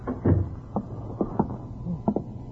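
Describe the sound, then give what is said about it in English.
A door is handled and shut, giving a short series of soft knocks and latch clicks spread over a couple of seconds, with no voices. “Shut the door.”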